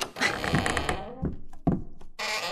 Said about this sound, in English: Well, do we have to give you the audio sting of you walking out the door, or do we not do that for this segment?